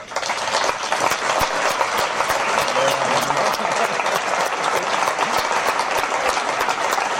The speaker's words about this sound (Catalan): Jo crec que el primer aplaudiment de la Festa Major ha de ser per la comissió.